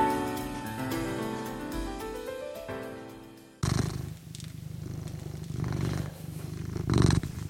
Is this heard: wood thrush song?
no